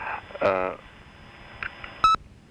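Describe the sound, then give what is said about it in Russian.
Two touch-tone keypad dialing tones as the letters CR are dialed on a phone, a longer steady beep followed by a short, sharp one after a pause, over a faint background murmur. “А как же это набирать? Поставите на букву CR.”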